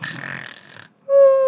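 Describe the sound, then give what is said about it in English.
A voice imitates a cartoon snore: a raspy, breathy inhale, a brief pause, then a loud, steady whistling tone on the exhale, with no other sounds. “The cutest little cartoon snore sound that he possibly can.”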